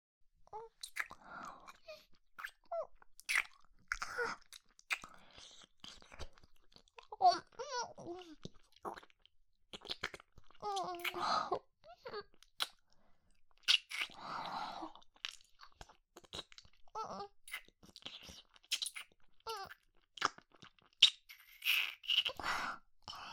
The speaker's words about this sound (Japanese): この姿勢だと、顔がすっごく近いでしょ。お互いの吐息が届いて、たまらなくなる。いっぱい、キスしよう。